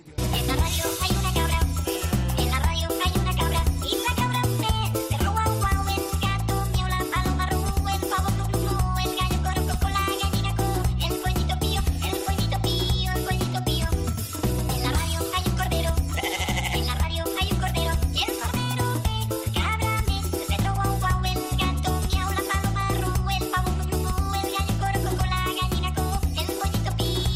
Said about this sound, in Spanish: Cinta, la música de la cabra, por favor.